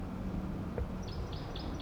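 A wild bird calls with a quick series of four or five thin, high-pitched chirps in the second half, over a steady low rumble of background noise.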